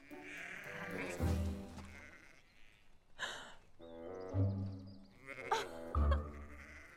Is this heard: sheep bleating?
yes